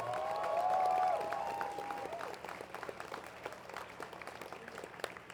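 A concert crowd applauds steadily for several seconds for a friend on tour with the band, a dense patter of many hands clapping, with cheers and a high whoop rising over it at the start before the clapping thins out.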